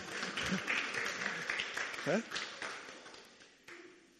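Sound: audience clapping hands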